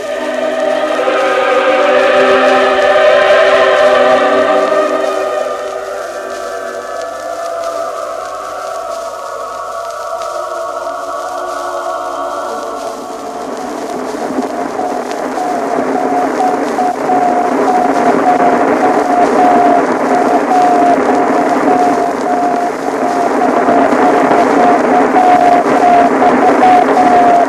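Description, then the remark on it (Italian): Radio signals from the orbiting spacecraft Vostok 3, from which Nikolaev talks with ground bases under the call sign Falco, recorded in Bochum: layered electronic tones warble loudly, then give way to a wash of hissing static carrying a rapid, repeating mid-pitched pulsing beep. No one speaks. “Questi sono i segnali della Vostok 3, l'astronave dalla quale Nikolaev parla con le basi di terra, usando il nome convenzionale di Falco.”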